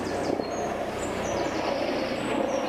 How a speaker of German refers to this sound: Was daran liegen könnte, dass es ein Hubschrauber ist.